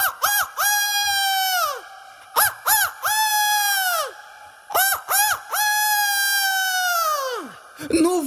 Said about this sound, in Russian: Через некоторое время петух прокукарекал трижды.